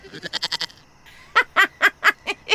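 A goat bleats: a quick stuttering run of short, wavering cries, a brief pause, then five louder, longer bleats in steady rhythm.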